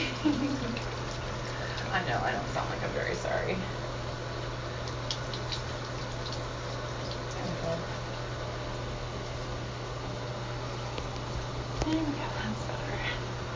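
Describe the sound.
A tap runs steadily to rinse off and clean a brush head, a continuous rushing hiss of water with a low hum beneath it, while a person talks briefly over the flow.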